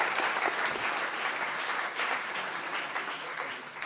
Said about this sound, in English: Thank you very much, guys. Give them a clap.